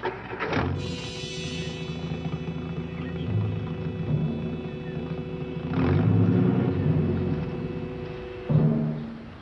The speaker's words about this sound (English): That's supposed to incriminate me, huh? The car starts and stops, and that really does it, huh? Really does it.